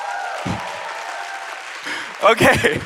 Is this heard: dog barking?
no